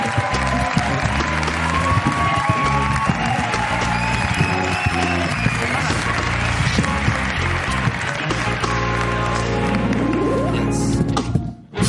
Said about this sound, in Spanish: Un aplauso para Jorge Ponce, hoy en la Resistencia.